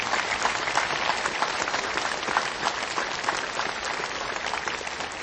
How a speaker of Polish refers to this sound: Możemy oklaskać dla prymasa, którego kochamy.